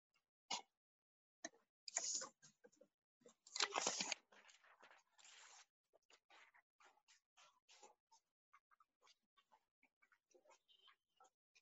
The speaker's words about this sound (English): I'm actually going to grab a piece of paper too.